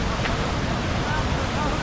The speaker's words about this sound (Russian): Вот он, Санта-Крус. Вот он, Тихий океан.